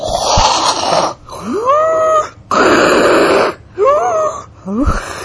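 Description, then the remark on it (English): Ujjayi yoga breathing: loud, raspy breaths drawn through a constricted throat, alternating inhale and exhale in long hissing strokes with occasional whistling, wheezy rises in pitch, and no talking. “You gotta all do the Ujjayi breathing.”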